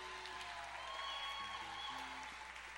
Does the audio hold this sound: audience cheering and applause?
yes